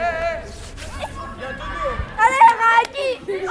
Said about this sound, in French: Les cris des élèves qui jouent au foot dans la cour.